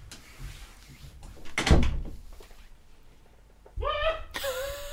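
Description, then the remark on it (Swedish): A door shuts with a single solid thud as someone leaves to go home, preceded by faint shuffling and followed by a few quieter clicks; voices start up toward the end. “Nu går du stängd dörren då.”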